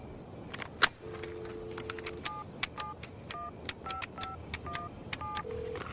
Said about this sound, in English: But while this is happening, the sidekick is in a car dialing a phone sex number and listening to a man seduce a dog.